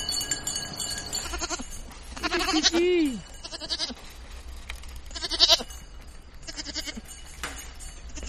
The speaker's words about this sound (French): Alors là, t'as des chèvres du Rhône. Là, t'as 3 chèvres de Savoie.